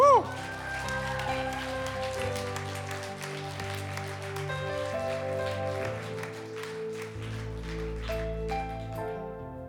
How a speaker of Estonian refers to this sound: Kas ma võiks tähistada seda? Teeme ühe võimsa aplausi Jumalale.